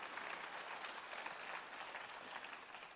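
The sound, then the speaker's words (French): An audience applauds God steadily for the full three seconds, a dense, even wash of many hands clapping with no voices standing out. “Voulez-vous l'applaudir, il est Alpha et Oméga, il te tient dans ses mains.”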